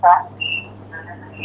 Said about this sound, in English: please mute your phone, please.